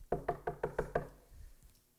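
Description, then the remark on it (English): Six firm knocks on a house door in quick, even succession, fairly loud, as a man knocks a second time, followed by a quiet pause with no voices. “I'm going to knock again.”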